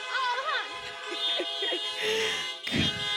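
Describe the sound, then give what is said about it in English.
Several car horns honk at once in a loud, overlapping chorus of sustained, steady tones, answering a preacher's call for honks, with voices and cheering mixed in underneath. “He even got back in his car so he could honk.”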